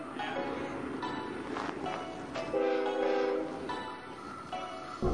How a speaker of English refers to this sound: Wow, can you... Whoa. Can you hear the ringing on the rail?